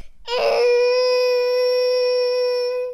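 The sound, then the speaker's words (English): A child's voice imitates a T-Rex roar as one loud, sustained, high-pitched screech. It starts with a rough burst and holds a steady, shrill tone for nearly three seconds, with no talking. “Can we hear your T-Rex roar?”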